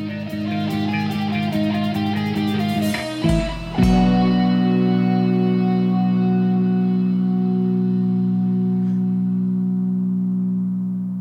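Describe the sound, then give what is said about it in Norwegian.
A gong in a song's production, faded up in the mix so its strike is barely heard, swells out of the music, then rings on as a long, steady, shimmering tone that slowly fades over several seconds. “Nei, de har feidet den opp og latt den ringe ut.”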